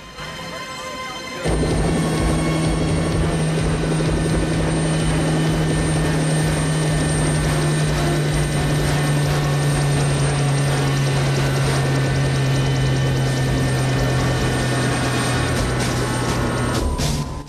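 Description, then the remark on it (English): A loud helicopter roars in after a brief quiet start, its steady rotor drone and whirring engine whine continuing without a break as it comes in to land at an airport. “Meanwhile, Sly's helicopter comes into land at the airport.”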